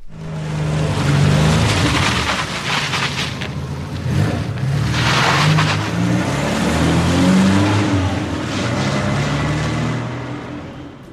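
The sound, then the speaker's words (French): A car engine revs loudly and steadily, its pitch climbing and dipping repeatedly as the throttle is worked, with a rough, continuous roar and no voices. “J'aime les sons des voitures.”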